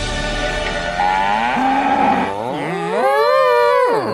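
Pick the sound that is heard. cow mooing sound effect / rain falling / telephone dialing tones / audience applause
cow mooing sound effect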